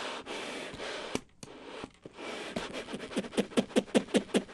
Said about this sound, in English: Then you just heard the bellows kind of squeezing, flopping together. So yeah, there's a whole bunch of effects you can get.